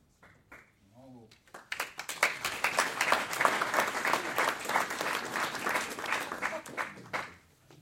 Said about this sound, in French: Merci de votre applaudissement, mais il y a une condition.